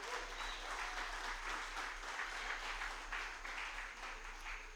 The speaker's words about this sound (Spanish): Y si tú lo crees, dale un aplauso.